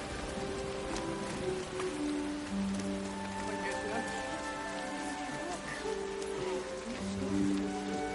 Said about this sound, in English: What's going on? It's rain. Real rain? Yeah.